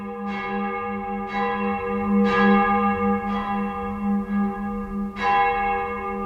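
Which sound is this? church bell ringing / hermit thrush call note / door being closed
church bell ringing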